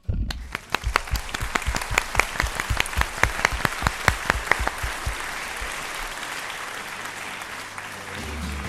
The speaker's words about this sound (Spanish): Es más, ¿qué te parece si le damos el aplauso del día? Venga, a esta tarjeta turística de Santiago, porque a mí me parece una de las opciones más estupendas y de aplaudir.